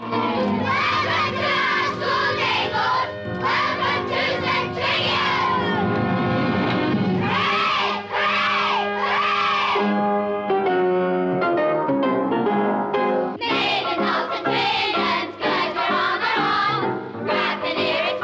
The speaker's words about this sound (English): An Austin 12-6 pulls up outside St. Trinian's to a fanfare of screaming girls.